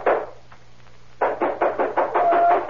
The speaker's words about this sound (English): I don't know how long I'd been asleep, but something woke me up. It was somebody pounding on the door.